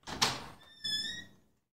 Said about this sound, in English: While I was scrubbing the sinks, though, I heard the front door of the building open.